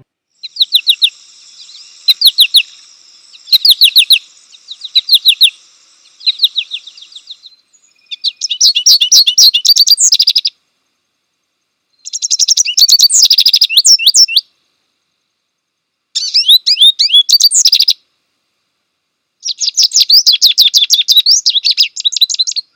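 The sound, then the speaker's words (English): An American goldfinch, the Washington State bird, calls in lively bursts of high, twittering chirps, repeated several times with short pauses between phrases, clear with no voices. “This week's creature call is the Washington State Bird.”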